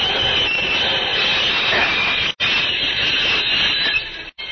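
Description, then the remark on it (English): A steam locomotive runs steadily along the rails, a loud, continuous hissing roar with a rattling undertone, briefly cutting out twice. No one speaks. “I will stop this locomotive.”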